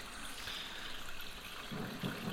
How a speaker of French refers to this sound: Silence. Alors, on entend le bruit de l'eau, de la pluie.